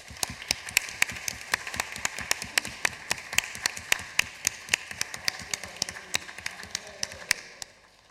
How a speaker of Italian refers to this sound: Vabbè, un applauso.